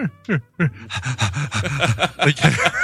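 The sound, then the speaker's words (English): A person imitates the heavy panting of a dog that needs to go out at night, with a few separate huffs that speed up into a rapid, steady run of loud breathy pants, with no talking. “Heavy breathing, like, I really gotta go bad.”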